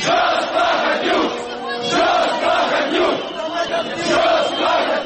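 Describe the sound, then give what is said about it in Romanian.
A large crowd of thousands of protesters at Parliament demonstrating against the investiture of the government and against Vlad Plahotniuc roars and chants together, a dense, loud wall of overlapping shouting voices that swells and dips in rhythmic waves throughout, with no single speaker standing out. “Declarația președinției a fost făcută în timp ce mii de oameni demonstrau la Parlament împotriva învestirii guvernului pentru alegeri anticipate împotriva lui Vlad Plahotniuc.”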